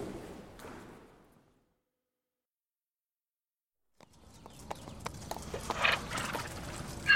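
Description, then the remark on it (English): A donkey's hooves clop unevenly on hard ground at a city farm in the centre of London, amid busy farmyard ambience with faint birdsong, following a short burst of earlier noise and a few seconds of silence. “Hello, Donkey.”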